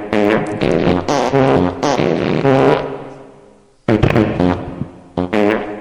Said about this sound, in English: It's time for Asshole of the Week with fart sounds recorded by the late and great …, the engineer